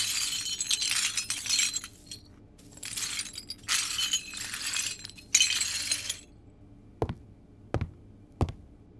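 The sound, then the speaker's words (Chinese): Broken glass shards being cleaned up near a bathtub, scraped and swept in several bursts of gritty, high-pitched clinking, followed by three sharp, isolated clicks or taps near the end. No one speaks. “好的，我马上收拾好，请主人务必在浴缸里待好，以免玻璃划伤手脚。”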